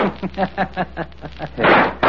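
sound effect, explosion sound effect

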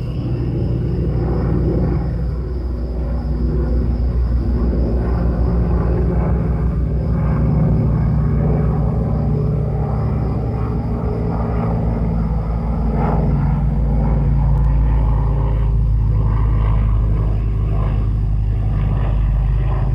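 vehicle, airplane flying overhead

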